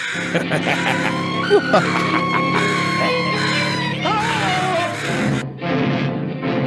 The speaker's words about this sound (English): He's been talking, I think, to a raven, some kind of bird is calling to him, and he is reciting the poem, The Raven.